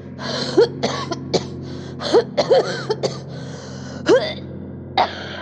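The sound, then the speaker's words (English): Wet, chesty coughing comes in a rapid series of harsh, loud bursts as someone clears fluid and thick mucus from their lungs, with gasping breaths and throat-clearing between them. Nobody speaks. “I tried to speak, but the fluid in my lungs needed to be cleared.”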